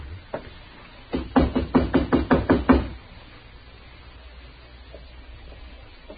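A quick run of about eight firm knocks on the wooden door of room number 9, evenly spaced, followed by a few seconds of quiet.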